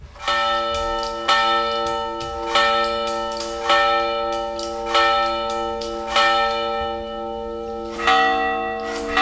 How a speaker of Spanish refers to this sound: ¿Tú oías las campanas? Sí. ¿Tú oías las campanas? Sí, igual sí.